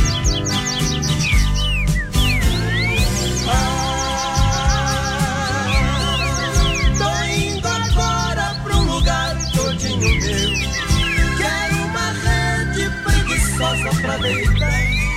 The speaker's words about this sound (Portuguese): Em minha volta, sinfonia de pardais, cantando para a majestade sabia, a majestade sabia.